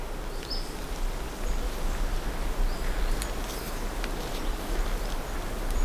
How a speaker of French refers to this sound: le vent bruisse.